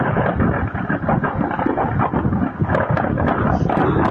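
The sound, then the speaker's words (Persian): A dense, continuous roar of successive explosions at the ammunition depot of the Syrian army's 12th Division on the outskirts of Daraa province, Syria, after an Israeli airstrike, with rapid crackling pops and low rumbling bursts blending together at a steady, loud level throughout. “صدای انفجارهای پیاپی زاغه مهمات لشکر 12 ارتش سوریه در حومه استان درعا پس از حمله هوایی اسرائیل.”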